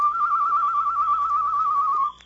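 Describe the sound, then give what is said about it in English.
A single long whistled bird call, a steady mid-high tone with a slight warble, held for about two seconds before cutting off abruptly. It's a human whistle imitating a bird, with no talking. “Him not answer bird call.”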